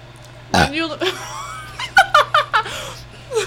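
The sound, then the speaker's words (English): A loud burp, made as a reaction, rumbles out, followed by a burst of rhythmic, giggling laughter from people. “It's funnier because we use burps as reactions.”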